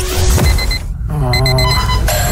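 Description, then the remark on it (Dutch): An electronic alarm clock goes off, short rapid beeps in quick bursts that give way to a steady, shrill ringing tone, loud over a busy background. “Er is eigenlijk maar één wekker die het echt waard is om voorop te staan.”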